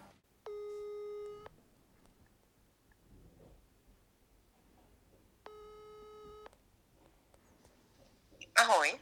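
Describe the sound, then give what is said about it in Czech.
A telephone ringback tone purrs twice down the line as someone calls a female friend from their phone, each steady electronic tone lasting about a second with a long quiet gap between, then a sudden loud click as the call connects. “a já zkusím vytočit nějakou svoji kamarádku”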